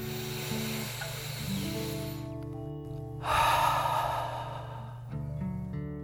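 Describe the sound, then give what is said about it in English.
Two slow, deep breaths taken like a dragon during a guided relaxation, a long airy inhale followed by a louder, rushing exhale, each lasting about two seconds over soft, sustained musical tones. “Let the water float your body up and breathe like a dragon in and out.”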